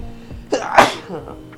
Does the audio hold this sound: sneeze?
yes